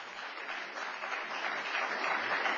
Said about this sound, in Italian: Applauso.